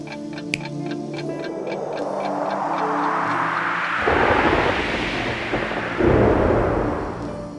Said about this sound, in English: I can hear the clock ticking.